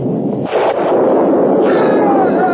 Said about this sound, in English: You shall hear thunder.